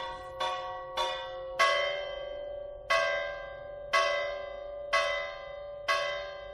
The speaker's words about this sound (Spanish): Al final, en muchas localidades de la provincia de Zamora y de todas las demás provincias, el único sonido que no ha variado es el de las campanas.